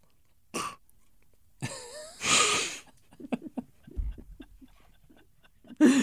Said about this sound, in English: Make sure we get those spit sounds.